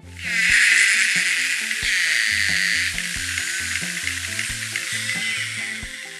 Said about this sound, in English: scientists were able to capture the clearest sound recordings of narwhals so far